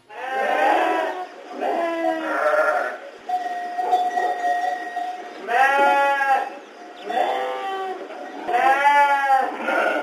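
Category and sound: animal, sheep bleating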